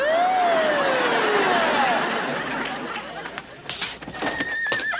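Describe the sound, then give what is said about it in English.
A horse gives a loud, descending whinny near the start, followed by scattered sharp clattering of hooves on hard ground over a steady background hum; a carriage drawn by eight horses. “I mean, the one time I finally get a carriage and 8 horses to drive me somewhere,”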